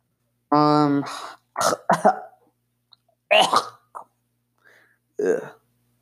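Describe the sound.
A run of harsh coughs and throat-clearing rasps comes in irregular bursts with short silences between, starting with a strained, voiced hack and tapering to a fainter cough near the end.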